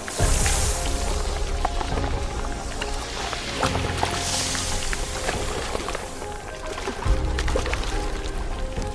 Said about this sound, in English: And all have to do their best to endure the daily downpour.